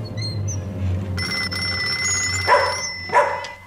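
A telephone rings at night with a steady, shrill electric tone that starts a moment in and keeps going, while a dog barks twice over a low background hum.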